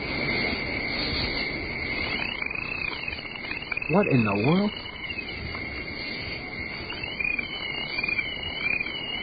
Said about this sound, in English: I want to hear the crickets. Oh, listen to that.